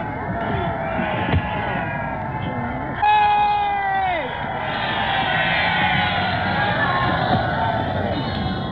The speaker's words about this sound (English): Now, if you wanted to see a British crowd in real enthusiasm, you've heard that one.